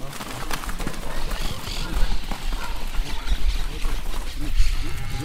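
Parrots screech over and over from poplar trees in Uruguay in a busy outdoor chorus on a hot day, shrill harsh calls overlapping continuously, with low thumping and clopping noises underneath.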